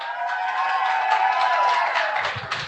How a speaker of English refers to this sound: really it's a town hall meeting. We got like 50 people here. Everybody, shout out. Let them hear you on the radio.